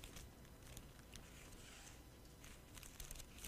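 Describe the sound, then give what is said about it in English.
Pages of a Bible with paper clips in it rustle and crinkle softly for a few seconds as someone looks for James chapter 1, with small papery flicks and crackles and no voices. “I got some paper clips in my Bible. I had to find out where I was going here.”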